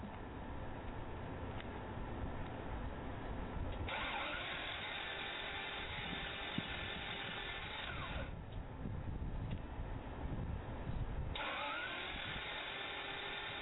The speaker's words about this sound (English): This is your car. You might want to take it to Fletcher & Sons Auto 2 Repair in Jonesboro, Georgia. Don't let the summer creep up on you and let your ignition or your engine sound like it's suffering.